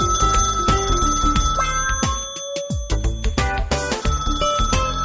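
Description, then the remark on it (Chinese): A telephone rings on and on, about 20 times, with a bright, tonal ringtone that repeats steadily and loudly, with no voices and no one picking up, as a student phones a classmate about a group assignment. “响了20声都没有人接”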